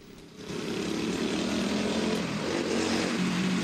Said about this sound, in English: In his yellow jumpsuit, Dignan speeds up to him on a miniature motorbike.